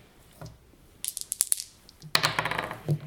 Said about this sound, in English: We're going to ask you to take those two dice right there and give it a roll.